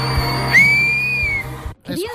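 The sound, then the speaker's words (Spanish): A loud, piercing mouth whistle slides up quickly, then holds a steady high pitch for nearly a second over a low background hum. A voice briefly starts speaking right after. “Gritando, ¿no? Silbido”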